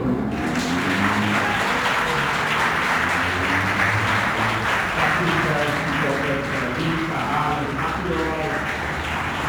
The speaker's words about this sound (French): Bienvenue. On vous applaudit même.